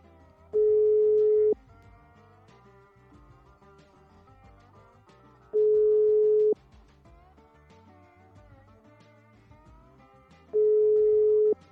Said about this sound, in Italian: Nell'altro capo del telefono non risponde nessuno.